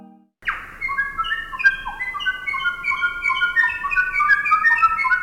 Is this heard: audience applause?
no